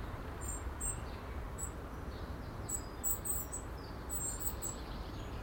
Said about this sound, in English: Tiny sweet squeak. Some of the birds are quite vocal. See, Robins.